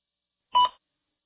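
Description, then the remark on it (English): A single short electronic beep, a bright dual-tone blip lasting about a quarter second, sounds clearly and alone against silence, like a prompt tone signaling a recording to start. “Please begin speaking after the beep.”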